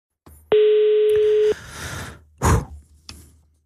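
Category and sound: signal or alarm, telephone dial tone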